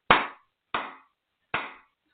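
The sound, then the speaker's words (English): Three sharp, loud hand claps with no talking, unevenly spaced, each one a crisp slap that rings briefly before fading into silence, done as a clapping clearing to cleanse energy. “Another clapping clearing there.”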